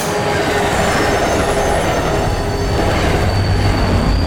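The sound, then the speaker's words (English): An uptown subway train roars through a tunnel heading this way, a loud, steady rumble of wheels on rails with thin metallic squeals riding high above it. No one speaks. “But now there's an uptown train headed this way, other side of the tunnel.”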